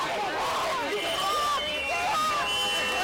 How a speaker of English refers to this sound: Agents were raiding a house across the street from the church, and a crowd had gathered. When officers emerged with two handcuffed young men, tempers flared.